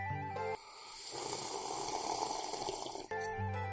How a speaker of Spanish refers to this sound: solamente lo destaco porque me estoy tomando el poledo menta. Voy a hacer el sorbito, que me apetece hacer un sorbito aquí con el micrófono en vivo y en directo. ¡Allá voy!